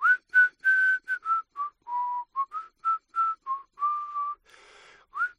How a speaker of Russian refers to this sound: Одеваясь, … насвистывает старину Дэна Такера.